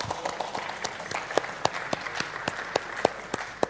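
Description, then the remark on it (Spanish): Sparse, subdued applause from an audience at a Xamarin talk after an app is deployed to the Genymotion emulator, a modest scattering of claps with a few sharper individual claps standing out, steady for a few seconds at moderate volume. “Es que este aplauso ha sido como muy contenido.”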